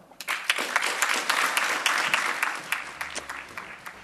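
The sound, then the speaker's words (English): An audience claps steadily after a reading of a poem by Native American poet Joseph Bruschak, a dense wash of many hands with sharp individual claps popping out above the crowd noise, fairly loud and sustained. “Yeah, you can hear them clapping.”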